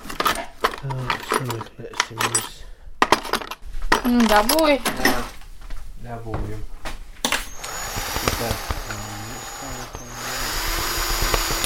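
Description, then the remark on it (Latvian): A few seconds of talking give way to a cordless screwdriver whirring steadily for several seconds as a smoke detector is screwed onto the ceiling, with a brief dip in the motor's pitch midway. “Dūmu detektoru pieskrūvējam pie griestiem”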